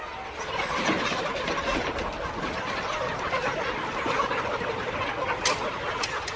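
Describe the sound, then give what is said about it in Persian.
A dense, unbroken din of many broiler chicks clucking and chirping together inside a dark poultry house where they never see sunlight, on a farm raising chickens under contract with Tyson, steady and fairly loud throughout, with no one speaking. “این جوجه ها نور خورشید رو نمی بینن. تمام وقت تو تاریکی هست.”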